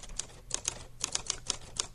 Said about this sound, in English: Oh, it's a typewriter. Yeah, they're easy. Those are easy ones, right?